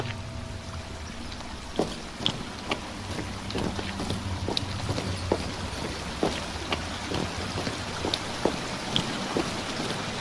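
waterfall

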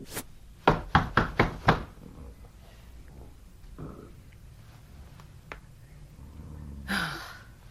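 knocking on a door

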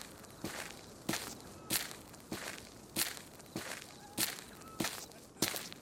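footsteps walking

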